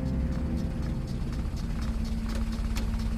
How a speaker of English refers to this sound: A motor car jerks and shudders in its transition from the smooth main roads to the winding country lanes of rural Derbyshire.